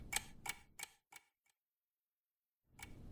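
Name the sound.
clock ticking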